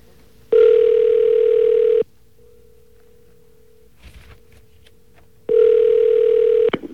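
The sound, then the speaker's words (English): A phone line rings out while calling someone elsewhere in the city: two loud, steady electronic ringback tones, each lasting about a second and a half, separated by a long pause with a faint hum and a brief rustle. “should be ringing him somewhere, wherever he is in the city.”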